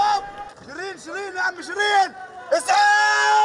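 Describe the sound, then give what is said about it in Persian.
Several members of an Al Jazeera news crew scream and shout in panic after gunfire during clashes between Israeli soldiers and Palestinians in the West Bank, their high, strained voices rising and falling in overlapping bursts before one sustained, piercing cry holds at the end. “صدای تیراندازی و بعد فریادهای تیم خبری شبکه الجزیره.”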